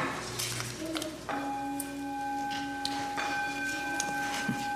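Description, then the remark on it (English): A temple bell is struck twice, its hollow, resonant tones ringing out and lingering steadily over a soft, hissing background, with no voices present. “And the hollow notes of a temple bell.”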